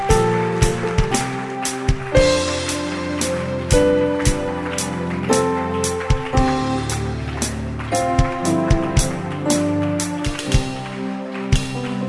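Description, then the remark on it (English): A church audience claps hands steadily for people going forward to the lady pastor, a dense, crackling patter of sharp beats, while sustained musical tones play underneath throughout. “Oh, don't stop clapping for them.”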